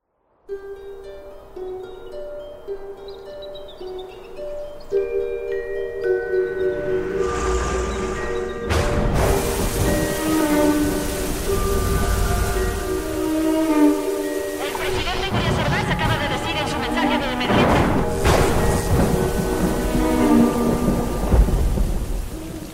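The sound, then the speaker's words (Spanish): Heavy rain roars steadily with rumbling thunder, while sustained musical tones play over it and voices speak briefly beneath the storm, in a scene from the Mexican film Los Parecidos. “En medio de una lluvia infernal, ellos llegaron.”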